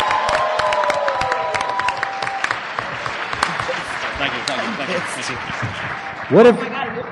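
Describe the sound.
A crowd bursts into sustained applause, dense clapping mixed with cheers and whoops, holding steady for several seconds before a single loud voice rises briefly near the end.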